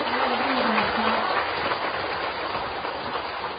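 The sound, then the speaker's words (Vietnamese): A large audience at a Buddhist dharma talk claps continuously, a dense and steady roar of many hands that stays loud throughout, with a faint voice briefly audible underneath at the start. “Nhưng con thấy trong thời pháp thoại hôm nay tôi các vị rất là tỉnh thức và thường xuyên cúng dường những chàng vỗ tay 8 tháng rất là lớn rồi tương tác với thời pháp thoại của thầy, có phải như vậy không ạ?”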